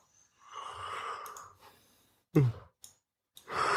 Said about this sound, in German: Ach so, das habe ich nicht gemerkt, dass du gähnst. Oh, das war doch das total professionelle Gähnen. Ah, der hat da extra für geübt.